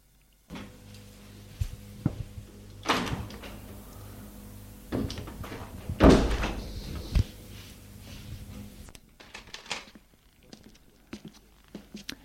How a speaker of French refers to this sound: une porte qui a claqué, des pas. Des objets que l'on touche, des pas.